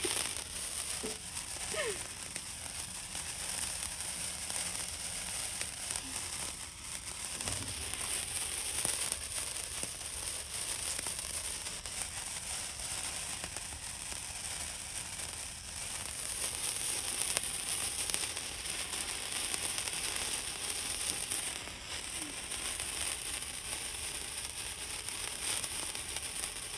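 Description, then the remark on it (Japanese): Fireworks crackle and fizz in the dark at night in a steady, dense stream of tiny pops, continuing without pause for the whole stretch, with faint voices now and then in the background. “やっぱこの夜の暗いのに花火のパチパチってめちゃめちゃ映えますよね。”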